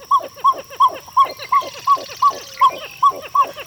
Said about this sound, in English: Pied-billed grebes are found throughout the lower 48, so if you're near fresh water, you could hear the male's unusual song before he sinks out of view.